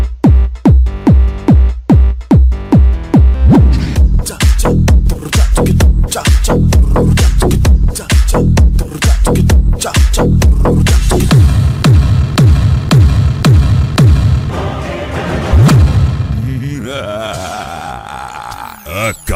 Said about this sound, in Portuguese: Firme. Aqui é pancada, pancada, pancada. A pancadaria do som automotivo está aqui.